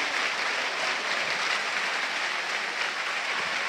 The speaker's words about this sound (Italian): vi faccio sentire l'applauso negli effetti di sottofondo.